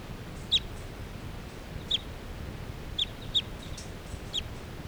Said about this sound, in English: That one wild bird that was just calling came back in.